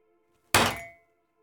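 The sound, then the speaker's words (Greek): A single sharp knock of ceramic mugs bumping together, a solid thunk with a short ringing tone that fades within half a second, over a faint steady hum. “Τι κουνήθηκε. Κάτι, εδώ οι κούπες.”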